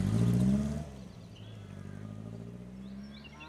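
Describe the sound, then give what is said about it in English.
A car engine revs loudly for a moment, then drops to a steady, lower drone as the campers' car pulls away on a farm, with faint birds chirping in the background. “The campers follow in their car.”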